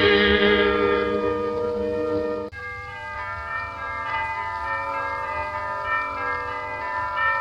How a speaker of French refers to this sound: Cette cloche sonnait le glas, malheureusement, d'un quatuor mythique,